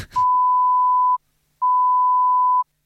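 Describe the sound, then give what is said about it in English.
Two long, steady electronic beeps that break up the sections of an exam, at a single mid pitch, each lasting about a second with a short silent gap between them, clear, with no voices. “Beeps that break up the section.”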